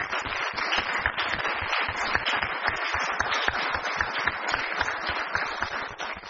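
A crowd at an Italian-language event applauds a professor and teachers for several seconds, a dense, continuous patter of many hands clapping at an even loudness, with no voices standing out.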